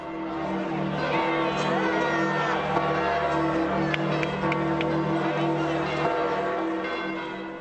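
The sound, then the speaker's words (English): Church bells ring continuously at the Vatican with long, overlapping tones while a large crowd cheers and shouts underneath, as white smoke signals the cardinals' election of Joseph Ratzinger as Pope Benedict XVI. The whole scene is loud and steady from start to finish. “Bells, white smoke, and cheering crowds at the Vatican today.”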